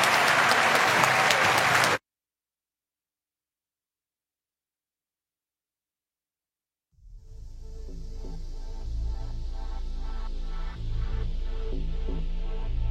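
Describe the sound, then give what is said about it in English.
A loud, dense burst of crowd applause for Speaker Nancy Pelosi at the Cap Times Idea Fest in Madison lasts about two seconds and cuts off abruptly. Several seconds of silence follow, then a steady, lower rhythmic sound begins. “So let's give a gigantic round of applause to Speaker Nancy Pelosi.”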